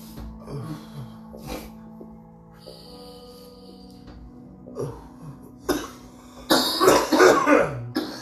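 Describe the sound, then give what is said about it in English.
Someone coughs after dabbing: a few scattered harsh coughs and throat-clearing sounds, then a loud, rapid burst of hacking coughs at the end, with no talking. “I will if I can fucking stop coughing.”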